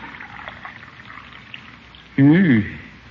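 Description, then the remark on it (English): Coffee pours into a cup in a short, loud, gurgling splash whose pitch climbs quickly as it fills, following a stretch of faint, quiet room background. “Let me pour your coffee, Unky.”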